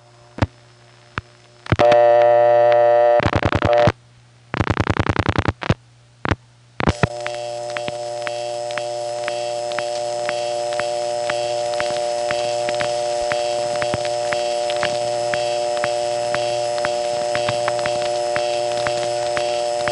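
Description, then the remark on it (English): A steady electronic telephone-line hum with layered harmonic tones, tone plant background noise heard on the line after dialing 50 plus one digit and hanging up, instead of a ring, preceded by a few loud bursts of tone that cut in and out, then a continuous drone with faint clicks. “On two subsequent calls, I'm going to dial 50 plus one digit and hang up, and instead of my phone ringing, it's just going to go to this cool tone plant background noise for as long as my phone's hung up.”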